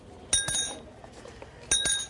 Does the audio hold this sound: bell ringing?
yes